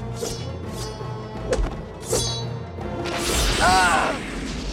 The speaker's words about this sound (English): Aladdin kicks Saluk, who crashes down, his mouth twisted in fury. Saluk swings mighty blows at Aladdin, who punches and kicks back.